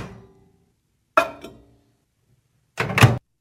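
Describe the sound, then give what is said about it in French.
A microwave door opens with a sharp click, a plate clinks down inside, and after a short pause the door shuts with a solid thunk. No one speaks. “On ouvre la porte, mets l'assiette, ferme la porte.”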